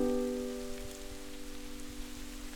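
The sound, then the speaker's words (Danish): Quaking aspen leaves, called Bæver Esben in Danish, rustle in a light wind in West Jutland (Vestjylland), Denmark, with a dense, steady, rain-like patter. A faint humming tone sits underneath and slowly fades, and no one speaks. “prøv en gang at lytte. Det er Bæver Esbens blade.”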